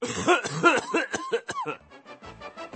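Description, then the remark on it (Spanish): A harsh, hacking smoker's coughing fit: a rapid string of rough, phlegmy coughs, loud at first and then trailing off into weaker, wheezy hacks. “se deje de escuchar la típica tos de fumador, kuřácký kašel, que es muy desagradable.”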